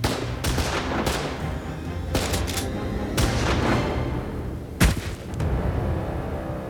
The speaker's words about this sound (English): He fired one shot before a hail of gunfire came from the stable across the street.